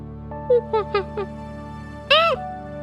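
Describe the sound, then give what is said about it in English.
Jungle monkey calls: four short, high, sliding hoots in quick succession, then a pause and one louder, longer whooping cry that rises and falls in pitch. “Did you guess a monkey?”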